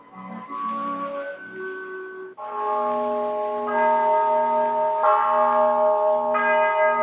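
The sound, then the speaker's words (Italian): A monastery choir bell tolls steadily to announce a death, each fresh strike landing every second or so over the still-humming ring of the last, the overlapping tones building into a loud, full peal with no voices. “Non appena la campana del coro ne annuncia il decesso, tutta la città corre a venerarla.”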